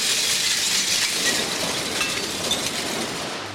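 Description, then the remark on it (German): A truck that has driven into the scrap hall of a scrapyard dumps its load of scrap metal: a steady, dense cascade of metallic clattering and clinking, loud and bright with a rumbling undertone, going on without pause. “Ein Lastwagen fährt gerade in die Halle und leert seine Ladung aus.”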